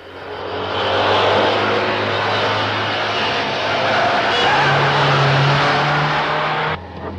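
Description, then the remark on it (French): A nun drives a Citroën 2CV furiously, its small engine roaring hard for several seconds, revving with a rising, strained drone and rattling noise before cutting back sharply near the end. “quand le gendarme de Saint-Tropez fait du stop et qu'il voit une deux chevaux s'arrêter, il est tranquille comme Baptiste, sauf que sœur Clotilde conduit sa voiture furieusement.”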